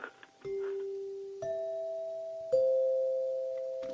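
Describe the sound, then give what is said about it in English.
Three mellow chime notes struck one after another, each ringing on and overlapping the next: a dinner chime from the golden days of American railroads, carried through the cars to announce that the dining car was open for dinner. Clear, with no voices. “That is a dinner bell from an American Railroad's golden days.”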